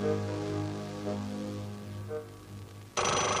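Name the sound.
desk telephone ringing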